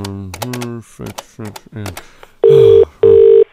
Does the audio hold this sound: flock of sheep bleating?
no